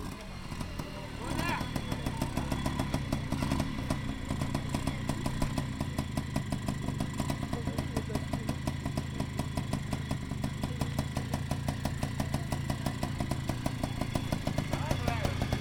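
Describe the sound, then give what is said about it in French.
An old Bultaco enduro motorcycle engine runs steadily at the back of a stage, a loud, throbbing idle with a rapid, even pulse and a mechanical clatter that holds for the whole stretch. “Dans le fond de la scène, côté court, Thibaut Thézan apparaît sur une vieille moto enduro.”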